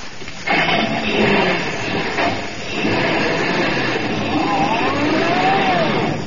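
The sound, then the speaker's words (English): A truck's loud, rumbling motor roars continuously as it is driven fast to a railroad station, with rattling mechanical noise and a rising, whining tone toward the end as it speeds along. “we'll put the bags on your truck, Kelowna. Now, come on, drive us down to the railroad station and step on it”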